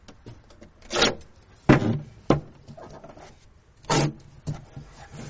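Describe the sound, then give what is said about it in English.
Wooden scraping and rubbing, with a few sharp knocks, as the broken small wooden door of a pulpit is fiddled with. Irregular bursts of handling noise, with no talking. “Excuse me, the door on the pulpit's broken again.”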